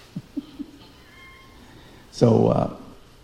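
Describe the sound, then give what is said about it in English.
A cat lets out a single loud, drawn-out meow, rising and falling over about half a second, preceded by a few soft, low taps. “Nobody fed the cat.”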